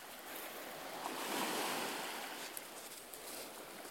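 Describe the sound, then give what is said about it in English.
Steady surf rolls and breaks onto a shore, a broad hissing wash that swells louder in the middle before easing off, with no voices. “They're running away from the waves.”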